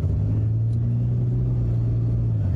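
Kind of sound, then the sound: vehicle, car driving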